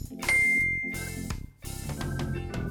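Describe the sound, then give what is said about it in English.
A bright bell ding rings out clearly and sustains over a busy musical background, followed about a second and a half later by a second, softer chime. “Repeat the words after the bell.”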